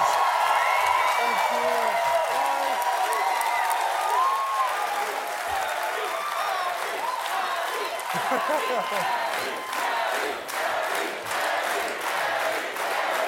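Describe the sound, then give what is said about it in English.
A large late-night TV talk show studio audience applauds and cheers loudly and continuously as a guest is welcomed, with dense clapping and scattered whoops and shouts rising over the steady roar, lasting throughout. “Thank you for bringing in the crowd.”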